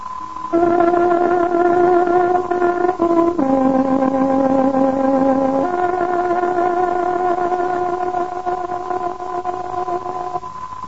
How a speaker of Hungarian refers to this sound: Kedves hallgatóink, pontos időjelzést adunk. Tárogatónk hangja 9 órát jelent.